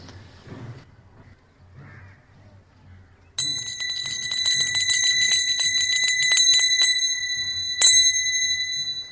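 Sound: bell ringing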